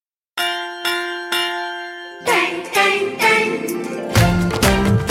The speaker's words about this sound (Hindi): सुनो घंटी बजी स्कूल की, चलो स्कूल तुमको पुकारे।